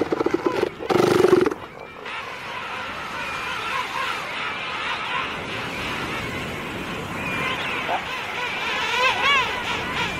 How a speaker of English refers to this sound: But first, they must cross a crowded beach, threading their way between gigantic and bad-tempered elephant seals.